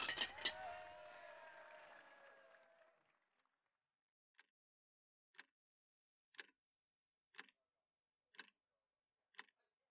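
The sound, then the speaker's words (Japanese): Glasses clink together at the start in a toast at a work drinking celebration, leaving a bright ringing tone that slowly fades, followed by six short, sharp ticks spaced evenly about a second apart. “明日は休みなので、今日はとことん飲んじゃってください。それでは、乾杯！”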